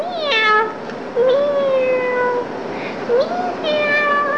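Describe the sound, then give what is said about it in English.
A voice imitates a cat, giving three drawn-out, wavering meows, each rising then sliding down, over a steady low background hiss. “Meow. I'm a cat.”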